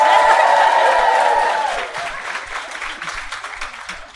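audience round of applause

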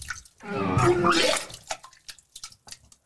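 person vomiting

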